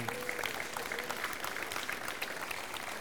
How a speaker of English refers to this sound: And I want you to give him a round of applause for that.